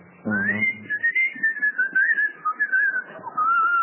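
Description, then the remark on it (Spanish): A person whistles one long, wavering high note lasting several seconds, imitating a train guard's whistle that signals the driver to start the train, fairly loud, with a brief throaty vocal burst at the start. “No, no es que cancherea, es que el guarda es el que con su silbato...”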